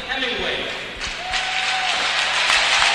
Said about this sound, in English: There's a round of applause for the youth players coming out and taking their positions on the blue line. Various youth teams being announced as we get to the starting lineups for the Panthers.